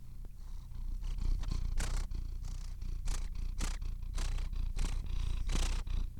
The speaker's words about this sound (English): Yeah, when she purrs, it's sort of a grunty. That's the kitty sound. Yeah, that's the kitty sound you make.